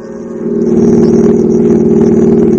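A steady car engine hum with a low, droning rumble that swells slightly in the first half second, then holds even and continuous while driving, with no voices.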